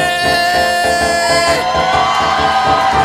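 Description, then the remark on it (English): A huge crowd of thousands in a stadium roars and cheers in a dense, sustained wall of sound, with shouts and whoops rising above a steady, loud rumble throughout. “And with a roar, the crowd begins.”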